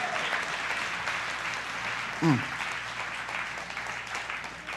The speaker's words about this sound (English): We're going to give you a certificate of participation. But you give her a big clap because at least she gave it a go.